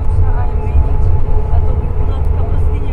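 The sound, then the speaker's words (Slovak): A departing bus, heard from a distance as a camp ends, rumbles low and steady for a few seconds, a continuous droning hum with a faint mechanical whine riding on top. “Z diaľky počuť už len zvuky odchádzajúceho autobusu.”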